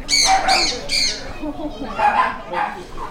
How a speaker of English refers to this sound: Those were where they kept our pets and took care of them. We walked them, fed them. There's birds back there.